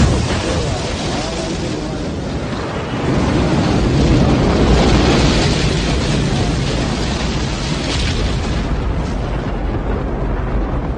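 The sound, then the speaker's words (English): A deep, continuous roar of Saturn V rocket engines at launch as the rocket races toward the moon, a dense wall of crackling, rumbling noise that swells slightly after a few seconds and stays loud and sustained throughout. “And there you hear the engines of the Saturn V rocket in all its glory and splendor racing towards the moon.”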